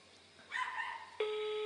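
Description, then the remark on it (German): A dog barks and yelps for under a second at moderate loudness, then a steady electronic telephone tone starts abruptly and holds. No one speaks. “Ignoriert den Hund einfach, hört einfach zu.”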